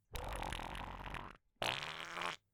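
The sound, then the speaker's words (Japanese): Two loud fart sounds from a girl in quick succession, the first a long sputtering rasp lasting over a second, the second shorter and higher-pitched, with a brief silence between them and no talking. “やば、音ブリリューだってくっせ。”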